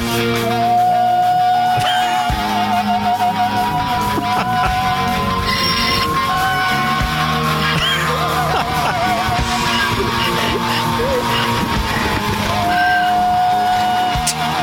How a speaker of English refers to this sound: That is the opera donkey. So, of course, we decided to, you know, see how she'd sound on some of our favorite songs.